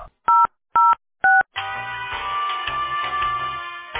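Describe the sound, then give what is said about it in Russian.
Three short, evenly spaced telephone keypad beeps dialing an employee's internal extension on the phone line of the company Teploenergosbyt SPB, clear, followed by a longer continuous line tone that holds for a couple of seconds. No one speaks. “Если вы знаете внутренний номер сотрудника, наберите его.”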